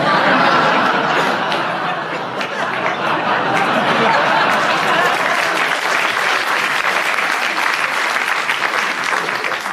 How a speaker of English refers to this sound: I don't know why you're clapping, he's just showing off.